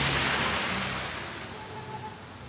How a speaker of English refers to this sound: Even this quick storm overwhelms the town's damaged drainage system. And before long, the streets are streaming with water. It's hard to imagine a big resort here when the terracotta drain pipes can barely handle a spring thunderstorm.